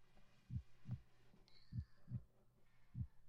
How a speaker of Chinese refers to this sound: 带上这个听诊器呢，老师让你听听我的心跳。听到了吗？这个就是老师的心跳，